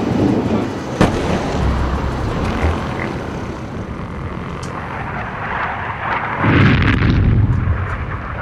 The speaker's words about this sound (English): Night of 13th. To 14th of July 2006, 4 a.m. The Israeli Air Force flies over Beirut. Far away, we hear bombs falling down.